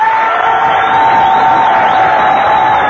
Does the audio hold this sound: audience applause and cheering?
yes